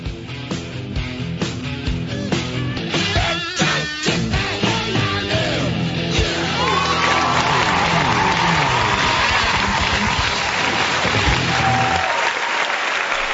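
A loud, sustained round of applause opening the 2A Radio show for host Bill Carnes, dense and steady clapping with a brief rising whistle partway through, lasting about twelve seconds before cutting off abruptly.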